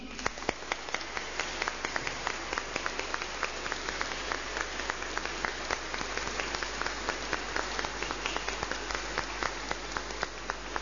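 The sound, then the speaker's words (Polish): A crowd at a sanctuary breaks into sustained, enthusiastic applause greeting Radio Maryja listeners and Telewizja Trwam viewers, a dense wash of many hands clapping with sharp individual claps standing out, steady and fairly loud throughout, with no voices. “Serdecznie witamy i pozdrawiamy słuchaczy Radia Maryja, pozdrawiamy widzów telewizji Trwam, a uczynimy to bardzo gorącymi oklaskami.”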